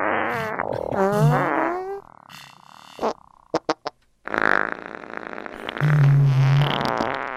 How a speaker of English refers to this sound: Here it is again with the fart enhancer.